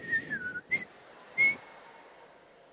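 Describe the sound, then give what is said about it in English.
A man whistles a few short notes with his eyes closed: a sliding, falling tone followed by two brief chirps, fairly soft, with quiet pauses between and no talking. “He will close his eyes and start blowing whistle.”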